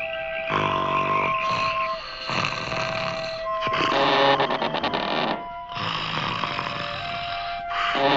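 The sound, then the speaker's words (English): Loud, raspy snoring, four long rattling snores in a slow steady rhythm, with a faint tonal hum running underneath and no one talking. “you're snoring.”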